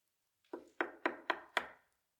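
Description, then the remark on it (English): Five quick, evenly spaced knocks on a wooden door, each a sharp hollow thud with a brief decay, heard alone against silence. “He knocks.”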